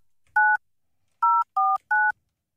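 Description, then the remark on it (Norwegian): Four clear telephone keypad tones as someone dials a phone number, each a short dual-pitched beep, with a pause after the first and the last three pressed in quick succession, loud with no talking. “Jeg har lyst til at ringe til telefonnummer.”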